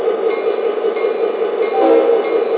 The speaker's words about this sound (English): You have a maintenance away train about 2 miles ahead of you. Stop and stay, over. Roger that, dispatcher. I'm stopping my train.